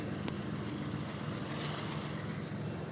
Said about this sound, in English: We hear you, train. I don't know, guys. This looks like a long train.